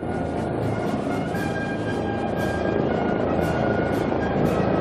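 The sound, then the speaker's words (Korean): A WG-19 ultralight attack helicopter flies at a military parade, its steady, loud rotor and engine roar filling the whole stretch without a break, with faint hissy swells on top and no voices. “이 밖에 조기 경보 체제를 갖춘 Y-9 정보 정찰기, 초경량 공격 헬기인 WG-19도 열병식에 공개됐습니다.”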